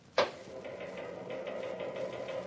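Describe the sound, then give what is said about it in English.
A sharp mechanical clunk starts a Linotype typesetting machine in a local newspaper office, which settles into a steady, rhythmic clatter over a continuous whirring hum, fairly loud, with no voices. “Putting the paper to bed, Mac? Yeah. Got much more to linotype?”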